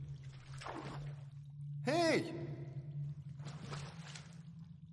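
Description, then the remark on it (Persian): Two short bursts of water pouring and splashing, separated by a loud startled shout, over a steady low hum in the background. “با یک کم آب چطورت نمیشه؟”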